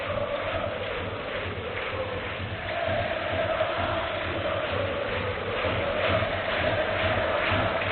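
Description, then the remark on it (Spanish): A large stadium crowd at El Sardinero shouts from the stands, including the Gradona, in a dense, continuous roar that holds steady for the whole stretch, swelling slightly louder toward the end, with no single voice standing out. “Sigue gritando la gradona, sigue gritando el Sardinero.”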